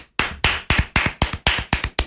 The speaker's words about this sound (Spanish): Aplauso triste. O sea, porque, vendrá... Porque no hay mucha gente, pero oye.